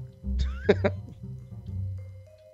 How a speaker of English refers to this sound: Well, first I have to finish coughing.